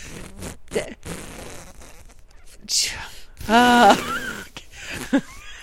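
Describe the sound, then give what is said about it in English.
A voice imitates a deflating pillow with a loud, buzzy, wavering fart-like noise lasting about half a second, set among brief breathy vocal sounds and snippets of talk. “I think it's funny that you want it to be inflatable, because then when it's going out of air, it's going to sound like a fart.”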